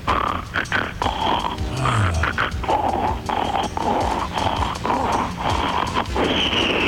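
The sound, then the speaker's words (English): Someone sings Silent Night entirely in loud pig-style oinks and snorting grunts, the voice imitating a pig in a continuous stream of nasal snuffles that follow the tune. “What song are you going to do like pig? I'm going to do Silent Night.”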